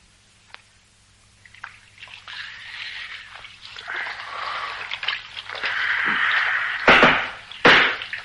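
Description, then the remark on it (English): Water splashes and sloshes as someone washes their face, starting with faint trickles and building to steady splashing, then two loud, sharp splashes near the end. “Ah, well, wait till I dry my face.”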